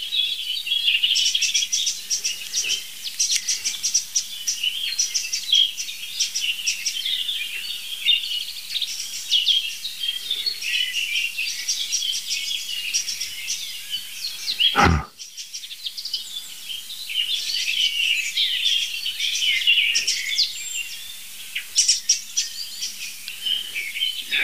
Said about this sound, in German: Einfach zwei richtig laut schimpfende Vögel. Also zwei Arten.